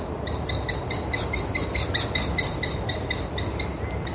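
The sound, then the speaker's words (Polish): A common blackbird gives a rapid, steady series of sharp, high alarm calls in the evening, about fifteen in a row, clear over faint background hiss, with no one speaking. “Ten pokrzyczał i odleciał. No i właśnie typowe dla kosa pod wieczór i zwłaszcza właśnie wiosenną, wczesną porą, gdzie dużo jeszcze osobników przylatuje nowych i trzeba się trochę poprzepędzać.”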